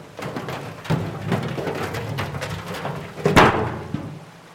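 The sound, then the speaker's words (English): Liquid pours out in a steady, splashing stream, with scattered small spatters and a louder gush near the end before it trails off. No one speaks. “Pour the rest in.”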